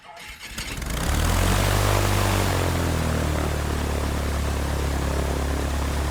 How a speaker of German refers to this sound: Ich fliege in einer kleinen Propellermaschine von Tobago nach Trinidad. Ein Flug von etwa 20 Minuten.